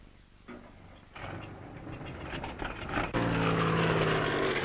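A record-attempt car's engine revs up and roars on desert salt flats at night, growing steadily louder in stages, then settles into a loud, sustained, droning whine. There is no talking.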